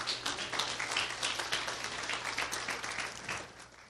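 A church audience claps their hands in sustained, dense applause for a fellow church brother, lasting several seconds, steady and fairly loud before tapering slightly at the end, with no voices standing out.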